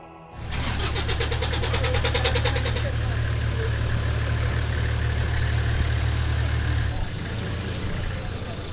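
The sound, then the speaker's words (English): A heavy military vehicle of UNIFIL's Italian contingent in Lebanon, preferred by a female peacekeeper, has its engine crank to life and settle into a loud, deep, steady idle, rumbling with a rattling clatter for the first few seconds. “from UNIFIL's Italian contingent prefers a heavy military vehicle.”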